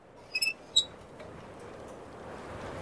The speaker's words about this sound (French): Confidential Detective tourne sur le présentoir qui grince.